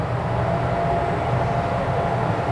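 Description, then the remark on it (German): Steady rumbling of an intercity train departing, a continuous low hum and rattle of the carriages holding an even, fairly loud level throughout, with no voices. “Willkommen im Intercity von Hühnergeschrei nach Groß-Klein. Achtung, Türen schließen. Zug fährt ab.”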